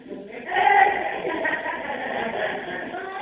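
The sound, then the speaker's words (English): A human voice mimics a sheep's bleat on cue, a wavering, nasal "baa" held for a few seconds, fairly loud, with faint laughter or chatter around it. “Do your sheep impersonation.”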